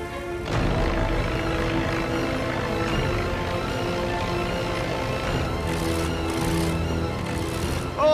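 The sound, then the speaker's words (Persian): A steady, loud engine drone with a droning harmonic hum fills the whole stretch from a propeller airplane in flight that is losing altitude, with slight swells in intensity near the end. “وزن هواپیما رو کم میکنم”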